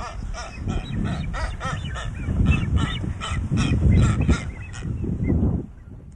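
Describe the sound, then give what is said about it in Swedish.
On the island of Española, a male bird whistles thinly and repeatedly while a female answers with a nasal, bleating call. The calls overlap in a busy, steady back-and-forth that stays loud throughout, with no talking. “Det är hanen som visslar och honan som svarar med ett lite bräkande läte.”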